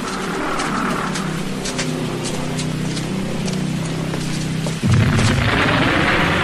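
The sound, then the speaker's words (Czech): A low, steady rumble builds for several seconds, then a close bomb blast during wartime German bombing erupts in a sudden loud, deep boom that keeps roaring through to the end. No one speaks. “tahle bomba byla hodně blízko.”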